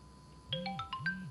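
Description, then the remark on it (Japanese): A phone ringtone starts up and plays a quick repeating melody of bright electronic tones over a low pulsing hum, clear, with no one speaking. “え、電話。”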